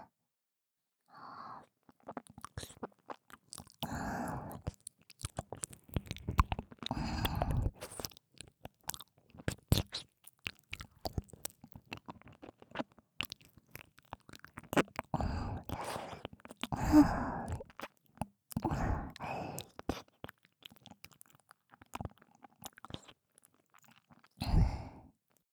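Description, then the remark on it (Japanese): Intimate crackling and wet rustling of something being stirred around inside an ear, coming in irregular bursts with soft breathy sighs between them, no talking. “で、耳の中をかき回すとね、君の熱い吐息を特に感じるんだよね。”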